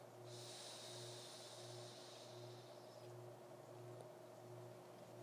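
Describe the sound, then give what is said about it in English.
A slow, deep breath drawn in through the nose during a deep-breathing exercise, counted to about four: a soft airy hiss lasting about three seconds and tapering off, over a steady low electrical hum with no talking. “Breathing in through our nose and out through our mouth for about 4 counts each.”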